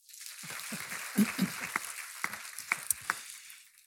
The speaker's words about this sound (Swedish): Då, han får en applåd.